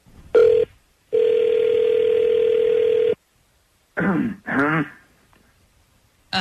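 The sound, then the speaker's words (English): A cell phone dialing tone as a call is placed to a cell phone: a short beep followed by one long, steady electronic tone lasting about two seconds, then silence and a brief throat-clearing vocal sound. “Okay, I'm going to dial up a cell phone.”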